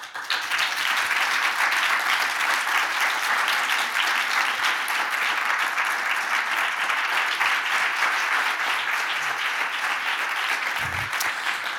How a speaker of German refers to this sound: dieser Applaus gehört euch.